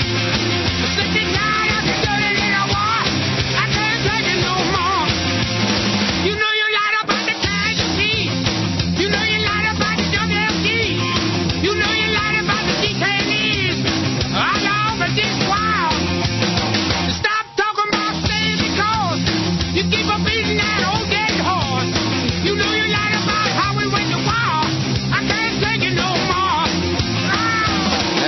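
A loud, driving rock song with a full band and raw, shouted vocals, playing continuously with two brief stop-time breaks where the instruments cut out before crashing back in.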